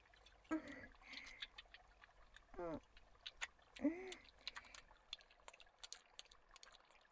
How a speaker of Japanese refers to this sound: これは別名石鹸の実とも言いまして、これを水につけておくと、とっても体に優しい、皮膚病の人でも体を洗える石鹸になるんですよ。これをよーく手ぬぐいになすりつけて泡立てます。